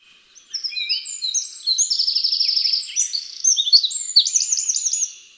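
wren song

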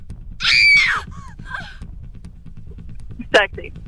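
scary scream

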